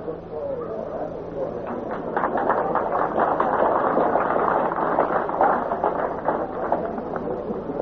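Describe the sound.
Horses' hooves clop in a steady, rapid rhythm, loud, at a horse pulling contest, over a continuous murmur of crowd voices and outdoor noise.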